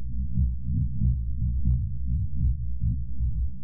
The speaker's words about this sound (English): Yeah, it does sound like a heartbeat, but it is not. It is the seismic sound of an elephant walking, the vibrations in the earth. Let me play it again. Really cool, huh? That African elephant is the largest land animal still alive today,